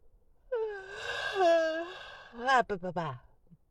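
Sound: yawning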